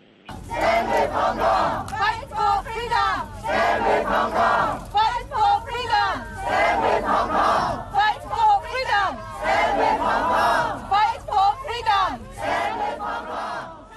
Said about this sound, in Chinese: 咁啊聽下較早之前咧係即係現場嘅參加者高呼口號嘅一啲嘅現場實況嘅聲音嚇。